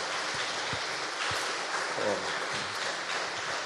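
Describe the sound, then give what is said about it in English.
An audience breaks into a steady round of applause, dense crackly clapping that holds an even level for a few seconds, with no one talking over it. “Why don't we have a round of applause for Kirsty and Willie?”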